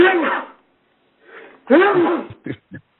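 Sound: sneeze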